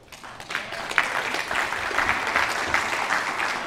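An audience claps steadily as a teacher is introduced, a dense wash of many hands that builds in the first second and holds at a moderate, even level throughout.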